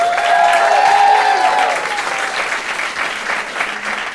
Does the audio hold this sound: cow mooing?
no